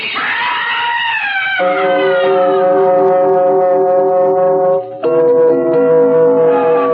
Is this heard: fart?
no